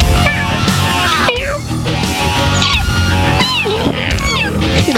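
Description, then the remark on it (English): Several high-pitched kitten meows rise and fall over one another, loud, against a dense, busy background with voice-like sounds mixed in. “Making me want more kittens, actually.”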